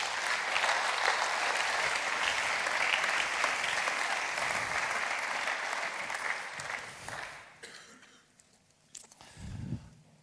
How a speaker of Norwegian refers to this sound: Ta I Øyvind en skikkelig applaus. Ja.